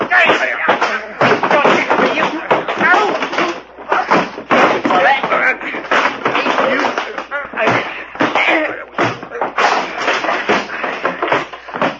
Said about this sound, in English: Gee, that was a fight.